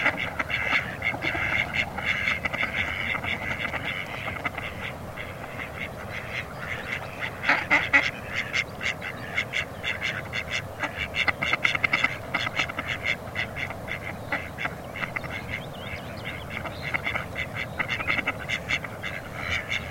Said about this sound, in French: Petite foulque macroule. Il y en a deux, donc ces petites pintades noires grisâtres, un peu avec le front et le bec blanc, qui se nourrissent dans l'eau, donc de végétaux aquatiques.